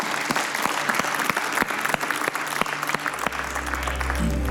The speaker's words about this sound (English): One more time, give the Lord a hand as we go our way.